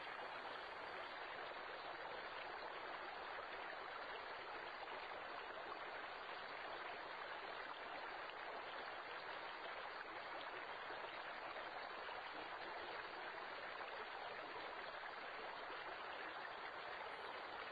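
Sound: flowing river water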